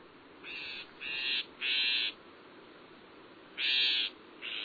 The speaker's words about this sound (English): In fact, some northern shrike songs include phrases that closely resemble the calls of some of their prey species, chickadees, sparrows, and other tender feathered morsels.